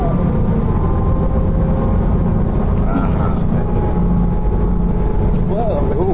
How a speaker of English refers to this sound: Whoa. Ooh, girl. Almost got hit by a truck. Dang, truck.